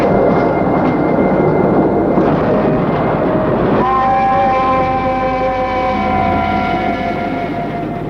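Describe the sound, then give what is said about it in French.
A crowded passenger train rumbles steadily along the rails, loud, with a sustained high metallic whine rising over the clatter partway through and holding to the end. No voices. “Le train s'arrête à chaque gare. Et se remplit de nouveau de voyageurs.”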